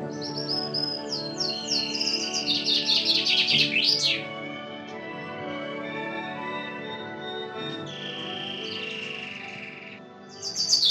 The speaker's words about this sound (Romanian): ascultând trilurile felurite ale păsărilor și susurul cristalin al izvoarelor.